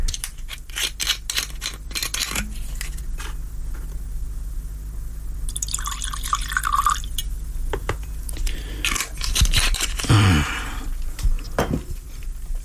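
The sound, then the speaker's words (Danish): A small drink is poured into a glass for a couple of seconds, the pitch rising as it fills, amid clinks, taps and handling clatter, with no talking. “Og så kan jeg lige nå at få mig en lille en til halsen.”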